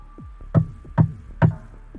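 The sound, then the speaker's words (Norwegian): Three firm knocks on a door to open it, evenly spaced about half a second apart, fairly loud with no one speaking. “Grunnen til at jeg banket nå det for å åpne døra ordentlig.”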